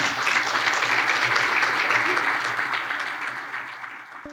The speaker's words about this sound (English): So thank you again for sharing all of these stories for the I Am 911 movement. Please, a round of applause for everyone who has shared a story.